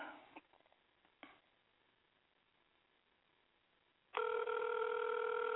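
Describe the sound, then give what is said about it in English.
After a near-silent stretch with a couple of soft clicks, a loud, steady ringback tone of an outgoing phone call to a friend begins and hums continuously to the end, with no one speaking. “It's ringing.”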